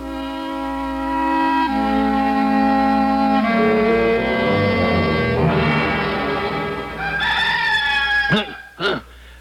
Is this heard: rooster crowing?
yes